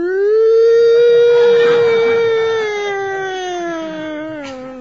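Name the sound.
police car siren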